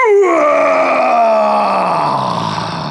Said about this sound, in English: The lion roared, He roared and he roared and he roared.